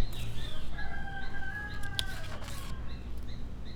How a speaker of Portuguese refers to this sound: Pássaro. É o pássaro.